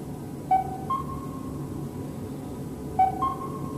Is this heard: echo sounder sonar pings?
yes